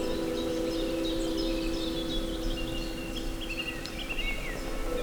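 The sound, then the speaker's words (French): Several birds chirp and trill in a fir forest, their high calls scattered throughout over a steady low background hum, with no one speaking. “Le chant des oiseaux est omniprésent.”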